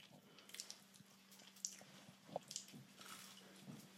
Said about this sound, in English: I'd love to munch instead. On a puff pastry in my hand.